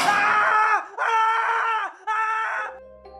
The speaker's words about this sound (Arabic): دخل ارفع واحد فيهم ومعاه كشاف. اول ما دخل سمعناه بيصرخ.